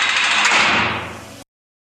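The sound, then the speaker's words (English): Doors slide shut with a loud rushing rumble that lasts just over a second, tapering slightly before cutting off abruptly into silence; no voices. “Alright, fellas, stand back and watch the closing doors. Lock them up.”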